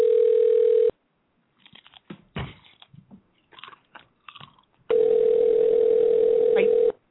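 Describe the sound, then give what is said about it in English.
A steady telephone tone plays over a phone line, signalling an unreachable number because the called person has changed his phone number. It cuts off, then returns after a stretch of crunching and chewing of chips. “He's so mad at us that he changed his number. Damn. Let me try one more time.”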